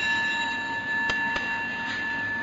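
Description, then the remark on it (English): A meditation bell rings with a steady, sustained resonant tone whose clear overtones hang in the air throughout, with a couple of faint soft clicks in the background and no talking. “Listening to the bell, I feel the afflictions in me beginning to dissolve.”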